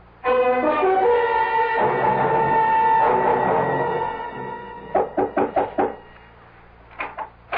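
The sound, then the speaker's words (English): A sustained droning tone fades out, then someone raps on an aunt's door in a quick series of about six firm knocks, pauses, and knocks twice more. No one answers and no one speaks. “My aunt doesn't answer the door.”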